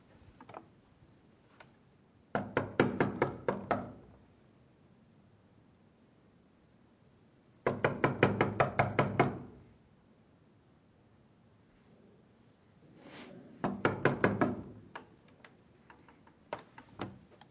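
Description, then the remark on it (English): Three separate bursts of rapid knocking on a door, each a quick series of firm raps, separated by several seconds of quiet. Clear, with no voices. “He's outside knocking.”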